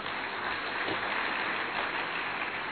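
Sustained applause from a large crowd clapping for themselves at the start of a session, a dense, even wash of many hands clapping at once, steady and fairly loud throughout with no voices standing out.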